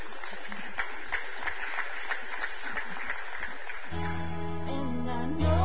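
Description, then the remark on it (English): An audience gives a big round of applause with dense, steady clapping as people come to give in offering buckets, then sustained organ chords swell in as the clapping fades out. “All right, with a big round of applause, y'all come give in these buckets.”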